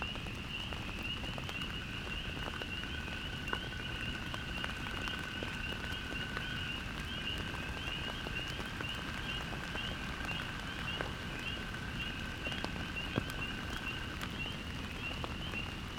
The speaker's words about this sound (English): To my surprise and delight, an American toad suddenly trills, and then another joins in.